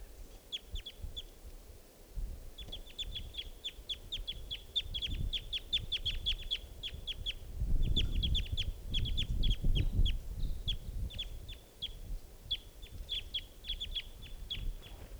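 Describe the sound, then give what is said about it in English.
A bird calls in flight, giving rapid bursts of short, high chipping notes that repeat in quick runs, set over a steady low rumble of background noise. “It's got green, oh, that was it, calling in flight.”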